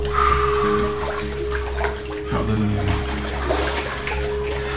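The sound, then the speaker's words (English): Floodwater from Hurricane Harvey in Port Arthur runs and rushes steadily and fairly loud, over a constant low hum, with indistinct voices briefly audible beneath the flow. “We got some water, y'all.”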